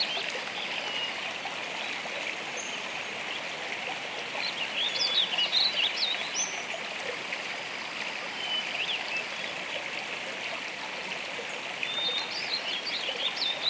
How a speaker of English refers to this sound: The sound grows louder as you approach, and before long, you are at the edge of a bubbling mountain stream. This is such a peaceful place.